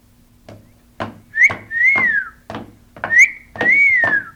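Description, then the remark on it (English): Someone whistles to get attention with a repeated two-part call, a short rising note followed by a longer falling one, played twice in a row, clear over light clicking or tapping sounds. “That's right. I'm whistling at you.”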